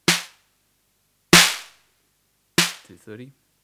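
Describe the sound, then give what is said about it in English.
Three evenly spaced snare hits from a modified drum machine, with the snappy turned right up and the noise control turned up to about 3 o'clock, each a loud, sharp crack with a bright, hissy noise tail that fades quickly. A brief voice follows the final hit. “So this is a whole different snare sound we've got going here.”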